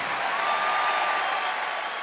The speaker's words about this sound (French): Je vous demande d'applaudir très très fort